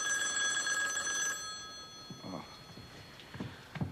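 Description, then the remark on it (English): A telephone rings with a bright, steady bell tone for over a second, then stops; faint voices murmur afterward in the quieter remainder. “Don't do it, Ben. You don't have to answer the phone.”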